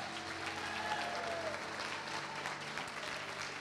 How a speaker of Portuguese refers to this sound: Aplauda aí, venha.